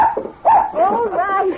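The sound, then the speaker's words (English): A dog yips and whines excitedly, a couple of loud, high, wavering bursts tumbling into each other over a second or two. “Quiet, buddy, quiet, fella. Oh, the way you two take on when Big Bill returns from a trip”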